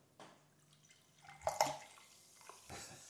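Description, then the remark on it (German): Carbonated apple spritzer is poured into a glass close to the microphone, with splashy gurgles peaking mid-pour and a soft fizzing hiss lingering afterward. No voices are heard. “Immer wenn man Kohlensäurewasser eingießt und es ganz nah, ich probiere es mal”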